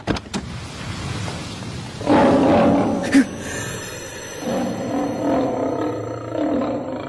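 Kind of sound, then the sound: animal, lion roaring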